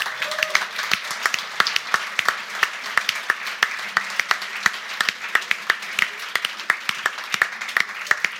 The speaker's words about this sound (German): Deswegen großen Applaus.